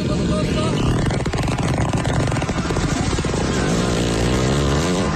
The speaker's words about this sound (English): That is a hippopotamus fart, ladies and gentlemen.